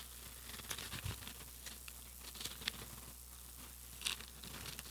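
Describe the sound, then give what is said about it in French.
Thin Bible pages are turned and riffled as someone looks for 2 Corinthians, giving soft papery rustles with a few sharper crinkling flicks, fairly faint, with no one talking. “Il y a tellement de papier dans ma Bible.”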